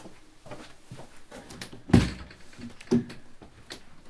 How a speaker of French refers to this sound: Le 6 février, on frappa à sa porte.